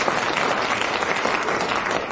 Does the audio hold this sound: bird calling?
no